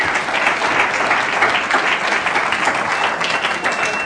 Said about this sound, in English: He doesn't have a sequiny tutu on this morning, but I think he still deserves a round of applause.